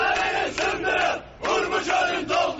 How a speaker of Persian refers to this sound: اونها در اعتراضهایی که ویدیوهاش در شبکه‌های اجتماعی دنیای مجازی منتشر شد شعار می‌دادند سدها رو بشکنید و ارومیه رو پر آب کنید.